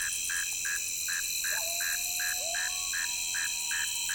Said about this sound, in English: northern mole cricket, the male singing from the entrance to its burrow along the muddy shoreline of the stream. I move in closer to the mole cricket for a better species portrait,